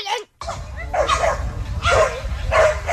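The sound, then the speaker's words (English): A person imitates a weak, strained bark of a dog at a campsite that can't really bark, producing three raspy, breathy yelps spaced about a second apart over a low background rumble. “And it even has the one dog that can't really bark, you know, where it's like...”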